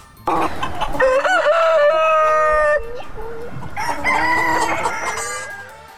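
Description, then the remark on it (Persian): A rooster crows loudly in Estonia, its long call stretching over a couple of seconds, followed by more crowing and hens clucking around it in a busy farmyard. “همچنان گزارش میشنوید در این مورد که شیوع ویروس کرونا در استونیا بازار فروش مرغ و کرایه مرغ را پر رونق کرده.”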